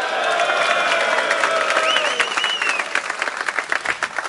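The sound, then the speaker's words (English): Loud, sustained applause from an audience at the end of a rhyming talk, dense clapping with some cheering voices and a whistle mixed in, continuous throughout, slightly thinning toward the end. “So thank you for listening and applauding so brightly.”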